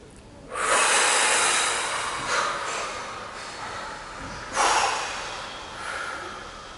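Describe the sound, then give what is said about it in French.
A long, deep breath out during a guided relaxation breathing exercise, a broad airy rush that swells and slowly fades, followed by a second strong exhale a few seconds later. No one speaks. “Et à l'expiration, nous allons mettre à distance tout ce négatif.”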